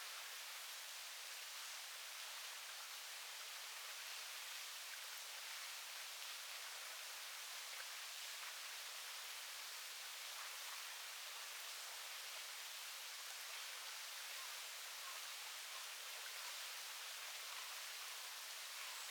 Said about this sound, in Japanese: はーい、そうですね。これは滝の音。